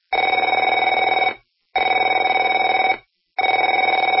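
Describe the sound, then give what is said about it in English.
A telephone rings in three loud, steady bursts of about 1.3 seconds each, separated by short silences, with a buzzy, trilling electronic tone and no voices. “Afraid to answer it?”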